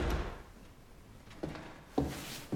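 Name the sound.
door opening and closing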